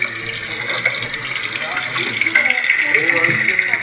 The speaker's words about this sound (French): c'est essentiellement des sons de glaciers qui craquent avec le petit clapotis de l'eau aussi qui est juste en dessous